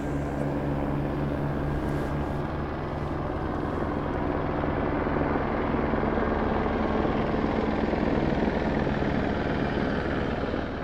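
A helicopter drones steadily overhead, its rotor producing a continuous low, pulsing thrum that stays loud and constant throughout, with no voices present.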